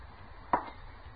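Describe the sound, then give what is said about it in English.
A single sharp slap across the face delivered by a woman, one brief fleshy smack that cuts off quickly against a quiet low background with no talking. “She slapped me.”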